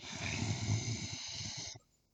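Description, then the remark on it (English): Someone lying on their back growls with their voice: a rough, rattling, guttural rumble held steadily for almost two seconds before cutting off abruptly, leaving near silence. “I can make, like, a really cool growling sound.”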